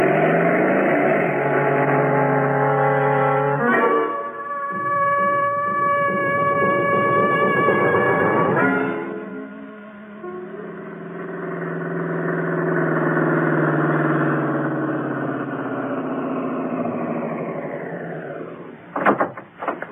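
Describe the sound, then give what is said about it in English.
A motorcycle engine revs loudly, shifts pitch through a few gear changes, then drones steadily as it pulls away to go after a car, with no one speaking. “Lend me your motorcycle.”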